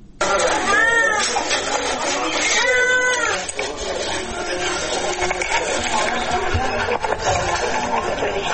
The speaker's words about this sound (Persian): نوزادانی که از گرسنگی ناله می کنند و به جای آغوش مادر به بستر شفاخانه رفتند. این نوزادان که به جای آغوش مادر در نخستین لحظات پس از به دنیا آمدند، صدای شلیک و فریاد را شنیدند، اکنون در شفاخانه بستری هستند تا بستگانشون پیدا شود.